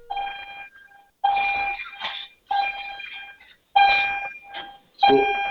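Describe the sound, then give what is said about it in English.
A school bell rings loudly in repeated bursts, about one per second, each a bright, buzzy metallic clang with a sharp start and brief ringing tail, no voices. “School bells, sorry.”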